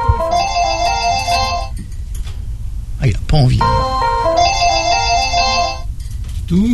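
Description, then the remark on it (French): A telephone ringtone is played in two bursts of bright, warbling electronic tones, fairly loud, with a man speaking briefly in the pause between them. “On va essayer à sonner du téléphone, monsieur.”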